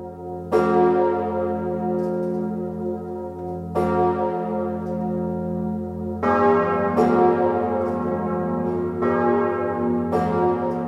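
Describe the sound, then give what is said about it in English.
The largest of a set of cathedral bells tolls slowly on its own, deep and resonant, each strike ringing out and decaying, then the other bells join in, building a fuller, overlapping peal. Loud, with no voices. “The largest is known as Emmanuel, named by King Louis XIV. It is rung on its own for the most solemn of occasions”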